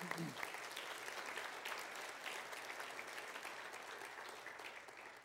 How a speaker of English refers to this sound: Offer them a word of applause.